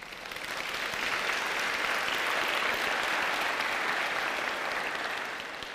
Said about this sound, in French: Applaudissons.